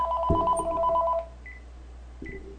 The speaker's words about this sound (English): Oh, the phone. I forgot about that. Should I answer it?